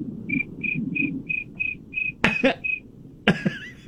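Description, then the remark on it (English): A voice imitates a cricket with a steady run of about eight short, high-pitched chirps, evenly spaced, broken by two abrupt, harsh throaty bursts near the end. It is made by a Chewbacca-like noise in the back of the throat turned into a whistle, sent as a voice note. “she can make a convincing cricket noise.”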